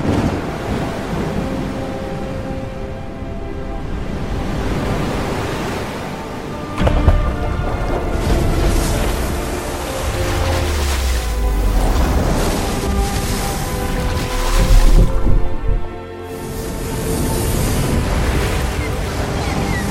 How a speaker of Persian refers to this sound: موسى عصایش را به دریا زد، دریا از هم شکافت و هر پارش چون کوهی بزرگ بود